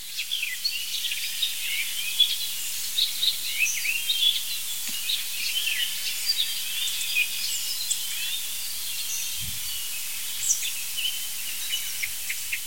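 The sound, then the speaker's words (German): An icterine warbler sings a fast, varied stream of high chirps, squeaks and chattering phrases mixed with mimicked calls, continuing steadily over a constant hiss of background noise. “Das sind die wilden Imitationen des das sind hier die wilden Imitationen des Gelbsplitters.”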